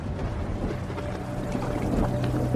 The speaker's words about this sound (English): As they break the news, rain starts pouring into the room, and Ryan slowly starts to slip under the water.